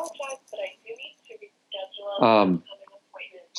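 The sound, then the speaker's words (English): A phone starts playing back a recorded voice message on its own, thin and tinny with clipped speech, punctuated by one brief, much louder tonal burst near the end. “I'm sorry, I'm getting a message on my phone here that you can probably hear.”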